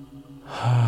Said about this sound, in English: Just going into your breathing and practicing it one more. Breathing in.